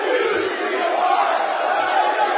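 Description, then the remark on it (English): A large audience shouts the phrase "I refuse to be a part of another generation" together, many voices merging into one loud, sustained roar that holds steady for a couple of seconds. “Shout with me. I refuse to be a part of another generation. Now let me hear you say it.”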